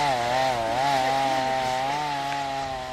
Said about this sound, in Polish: Więc w tej chwili dobiega tutaj to, z czym tak walczyła Simona w Puszczy Białowieskiej. Warczą piły i padają drzewa.